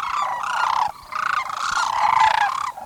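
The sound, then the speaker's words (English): Sandhill cranes call in loud, rolling, trumpet-like bugles that overlap into a continuous chorus, dipping briefly before swelling again. No one speaks. These are cranes of the kind that stop each fall and spring at the Gustavus Forelands Preserve in Alaska to rest and refuel on migration. “Hank Lentfer, author and lifelong Alaskan, helped establish a 4,000-acre refuge for sandhill cranes.”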